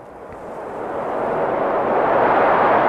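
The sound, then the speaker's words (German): Strong autumn wind blows in a continuous, rushing roar that swells steadily louder over a few seconds, a broad noisy whoosh with no voices. “Der Wind. Was für eine Energie. Ja, schon rein vom Zuhören her.”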